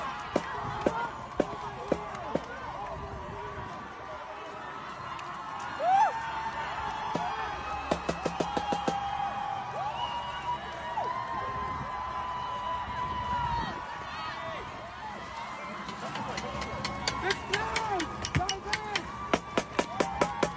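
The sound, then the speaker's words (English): Drums are beaten in quick, sharp bursts at a crowd protest at Harvard, over a steady crowd roar with voices talking and shouting; the rapid hits cluster in loud flurries rather than a steady beat. “That's not gunshots, that's drums.”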